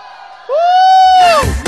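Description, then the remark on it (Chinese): A loud, sustained high-pitched scream rises suddenly and holds, then breaks into a burst of noisy crowd cheering and shouting: the biggest scream of the night from the crowd at a DJ's set. “来自新的晚上最大的尖叫声，”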